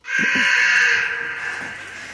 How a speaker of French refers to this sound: Et pas question de bâiller aux corneilles, car de ce noir volatile, voici le cri.